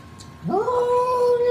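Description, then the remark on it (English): A single drawn-out cat meow that rises in pitch and then holds a steady, whining tone, fairly loud, with no talking. “That is a cat.”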